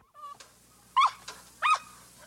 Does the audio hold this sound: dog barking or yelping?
yes